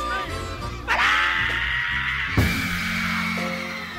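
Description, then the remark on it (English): A soul singer lets out a long, piercing scream that holds for a couple of seconds, loud and raw, over a live band playing underneath, on a live recording at the Apollo. “What's the magic of that scream?”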